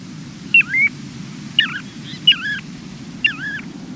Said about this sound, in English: At Milford Point in Connecticut, you might hear a piping plover.